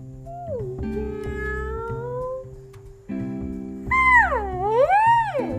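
A cat meows several times in drawn-out, pitch-bending cries, the last one louder and wavering, over a steady low droning background of sustained tones.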